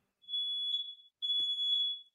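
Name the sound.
smoke detector alarm beeping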